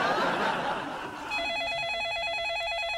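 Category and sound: household object, telephone ringing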